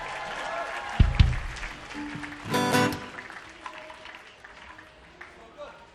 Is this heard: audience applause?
yes